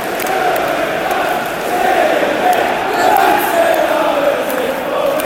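A large football crowd at a West Ham versus United match sings a chant in unison, a dense, steady roar of many voices with a slow rising and falling melody that holds loud throughout.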